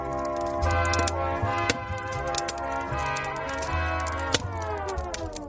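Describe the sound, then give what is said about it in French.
A bonfire crackles with irregular sharp pops and snaps, layered over steady sustained musical tones and a low droning bass that carry on throughout. “Tu entends ce crépitement ?”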